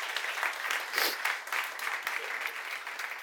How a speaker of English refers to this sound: And so give him a round of applause as he comes up.